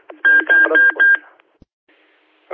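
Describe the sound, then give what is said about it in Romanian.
A radio timer sounds four short, loud electronic beeps in quick, even succession, each a steady high tone with a slightly buzzy edge, followed by near silence and faint static. “te acoper bip-bip-ul ăla și n-am sesizat finalizarea.”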